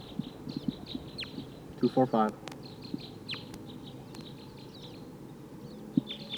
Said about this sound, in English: Sounds like wild birds are coming.